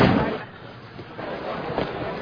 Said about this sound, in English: let me close the door to my office. One second, all right?